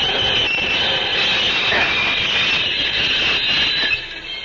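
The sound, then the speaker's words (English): A locomotive train rumbles steadily along with a dense, continuous roar and a bright high-pitched hiss or squeal riding over the top, loud throughout with no voices. “I will stop this locomotive.”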